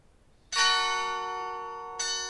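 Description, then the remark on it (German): The bells of the Kiezkirche on Große Freiheit in St. Pauli, Hamburg: a bell strikes loudly, its rich ringing tone sustaining and slowly fading before a second stroke sounds about one and a half seconds later. No voices are present. “Und zum Schluss unseres Podcasts hört ihr noch die Glocken der Kiezkirche.”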